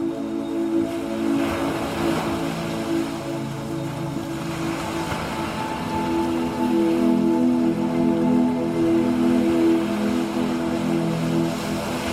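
sea waves

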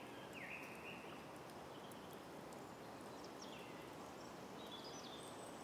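birds singing

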